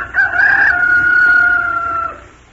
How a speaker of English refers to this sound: It was a rooster, of course.